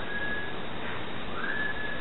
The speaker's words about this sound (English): listen to the whistling sound that we heard in the room.